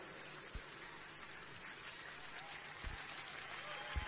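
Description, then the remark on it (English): A church audience clapping a clap offering to receive their pastor as he comes up during a morning service, a steady, dense wash of applause with a few sharper claps and thumps standing out now and then. “I'd like us to receive him with a clap offering as he comes up to give us this sharp word before we go further in the service this morning.”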